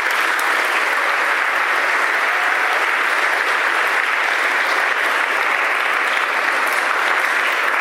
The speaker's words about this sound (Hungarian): Most kérném nekik a nagy tapsot.